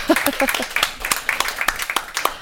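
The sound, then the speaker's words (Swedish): A small group claps in a brief, uneven burst of applause after the announcement of Sweden's first mountain-bike team for women, sharp irregular claps at moderate loudness, with a short voiced sound at the start. “Värt en applåd nästan, va?”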